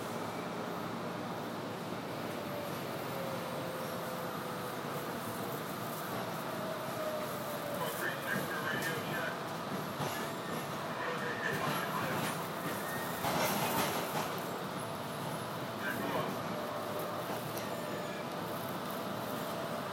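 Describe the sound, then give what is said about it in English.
A train rolls steadily between stops, heading to Brigham Circle, with a constant low rumble and rattling clatter, while thin high-pitched wheel squeals rise and fade over the continuous noise. “Next stop, Brigham Circle.”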